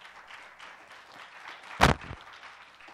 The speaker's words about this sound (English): Give him another hand. I always like what John Hagee says. He says, give the Lord a hand in his house. So give the Lord a hand this morning. Y'all clap to the Lord.